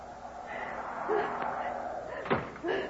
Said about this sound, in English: Oh, there's the door. Janie, open the door, please.